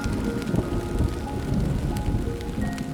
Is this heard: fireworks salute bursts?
no